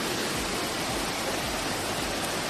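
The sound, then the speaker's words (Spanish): A steady, dense roar of floodwater rushing through city streets, loud, with a broad hissing texture and no pauses or voices throughout; the flood came from a 10 to 15 minute storm that filled the city with mud and water. “Pues fueron, muy poquito tiempo, entre 10 y 15 minutos de tormenta, pero cómo llovería que convirtió la ciudad en un infierno de barro y de agua.”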